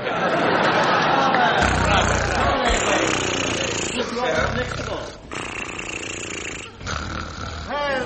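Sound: imitated snoring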